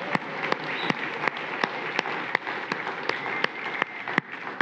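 A crowd applauds steadily for several seconds, a dense wash of clapping with a few sharper, closer claps standing out. No one speaks over it.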